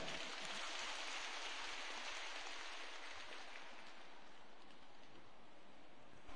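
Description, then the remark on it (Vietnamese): Sustained, dense applause from a young audience, a steady wash of many hands clapping at once, holding at an even loudness for several seconds and thinning slightly toward the end, with no voices over it. “Các bạn trẻ hãy dành một tràng pháo tay thật là lớn.”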